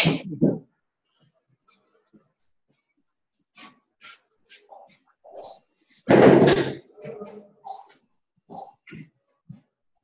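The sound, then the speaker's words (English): Quiet shuffling and faint footsteps lead up to a single loud door closing with a solid thud, followed by a few softer knocks and rustles. No one speaks. “And I just noticed the door is open. Not just our doors of perception, but also, I think I'm gonna close that.”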